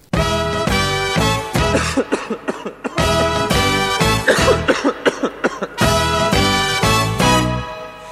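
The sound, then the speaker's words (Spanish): Coughing sounds come in rhythmic bursts over loud, tonal music in a song from Argentina about winter colds and coughs, clear, with the coughs repeating in quick clusters through the middle of the piece. “quienes nos presentan el invierno, el resfrío y la tos.”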